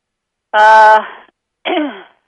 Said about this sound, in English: is coughing and choking.